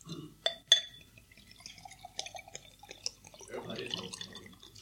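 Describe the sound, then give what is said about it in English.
Water pours into a glass, starting with a couple of sharp clinks and then a steady, gurgling trickle that brightens as the glass fills. No one speaks. “If you'll indulge me, I'm going to pour myself a little water.”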